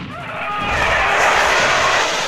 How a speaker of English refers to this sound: Holding the blaster with both hands, he triggered the weapon at point-blank range.